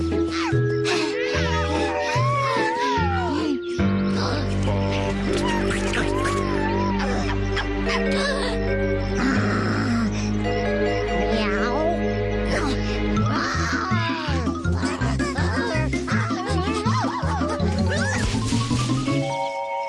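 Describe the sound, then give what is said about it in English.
A child's voice imitates a wolf, letting out long rising and falling howls over loud, busy music that keeps playing throughout. “I already told you, I'm a wolf.”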